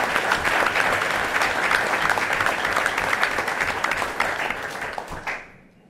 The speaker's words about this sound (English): One more round of applause for our students. Thank you.